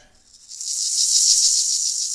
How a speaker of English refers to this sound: rattling maracas, a sound that would be saved for a virus that would haunt the ship in a later episode called The Naked Time.